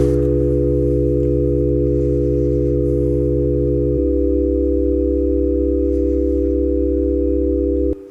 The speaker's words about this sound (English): any complex waveform can be turned into a sum of sine waves. So for example, we can make a chord playing just sine.